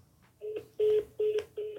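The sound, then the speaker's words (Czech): Four short electronic phone beeps repeat at an even pace, the tones of a phone call being cut off after airplane mode is switched on. They sound clear, with no talking over them. “A teď to prostě vypadlo.”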